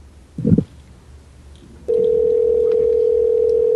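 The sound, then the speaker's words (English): A short muffled clunk on the line, then a steady, unbroken telephone dial tone starts partway through and drones on at a constant mid-low pitch until the end after the call disconnects. “We got disconnected somehow.”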